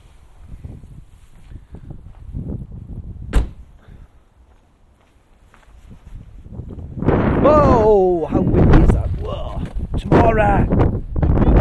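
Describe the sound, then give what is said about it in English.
A low rumble and a sharp click of a door opening, then strong wind roars in loudly, gusting with whistling, whining tones over the blustery noise. “Let's go into the wind.”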